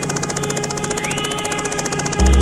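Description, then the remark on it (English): A helicopter engine runs steadily with a rapid rhythmic chopping pulse over a constant droning whine. A sudden louder low rumble surges in at the very end. No one speaks. “Sounds of the chopper.”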